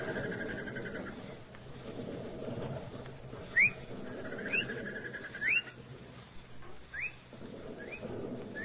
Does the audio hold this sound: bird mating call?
yes